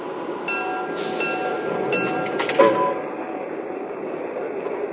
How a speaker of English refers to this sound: from New York on track 1. Train number 15, the Transcontinental.